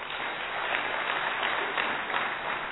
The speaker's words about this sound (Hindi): सबसे पहले तो आप सभी से एक सवाल करती हूं, सभी खुश हैं या खुशी चाहिए? खुश हैं, तो इसके लिए जोरदार तालियां हो जाए।